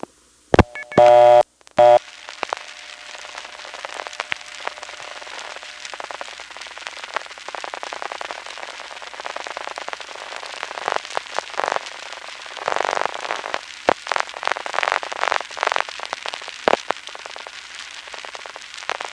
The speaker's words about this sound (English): Now here is a number one crossbar entity that has some interesting qualities, especially crosstalk. Let's just get a dial tone, this time from a prepay coin phone. Dial one digit, and just listen to the noise on the line.